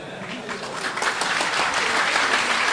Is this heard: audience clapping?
yes